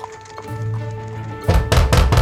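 Four loud, heavy knocks on a front door in quick, insistent succession, preceded by a low, steady hum with faint tonal lines underneath.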